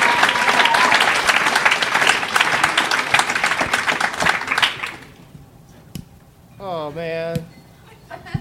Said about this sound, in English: I mistimed the applause on that one.